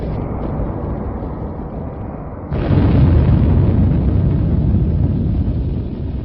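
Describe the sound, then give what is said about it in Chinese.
A massive atomic bomb explosion, caused by a fast nuclear chain reaction, rumbles with a deep, sustained roar that suddenly surges louder partway through and keeps thundering steadily to the end, with no voices present. “那么如果说有足够的这个原料放在一起的话，那么它就会发生这种快速的反应，那多的话就成了一个原子弹爆炸。”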